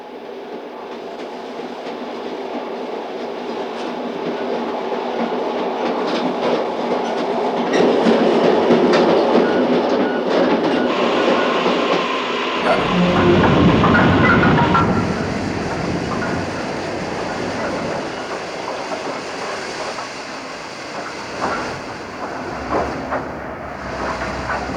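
A moving passenger train rumbles steadily, its wheels beating out a rhythmic clickety-clack over the rails, swelling louder midway through the roughly twenty-five seconds, with no voices.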